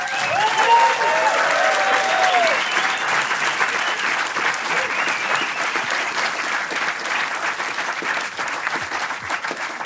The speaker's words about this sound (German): Und jetzt kommt der Wechsel auf Schweizerdeutsch und wenn ihr wollt, machen wir mal kurz einen Applaus. Wie hat es euch gefallen?